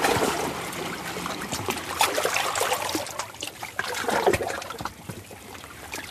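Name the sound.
ocean waves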